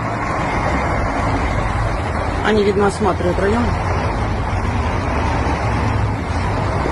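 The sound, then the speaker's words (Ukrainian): A steady, low rumble of vehicle engines runs unbroken through the whole clip as a group of saboteurs' vehicles turns again on a street, filmed by a local resident around 7 to 8 a.m. on 27 February, with a man speaking briefly over it midway. “Ребята думают, куда ехать. Еще раз поворачивают у нас.”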